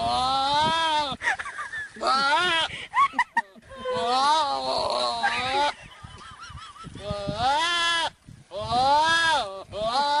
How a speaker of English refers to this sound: A goat, a real live goat, that sounds like Jerry Lewis. There you go. And now it's time for Happy Sounds While You're in Quarantine. Here's a goat imitating Jerry Lewis.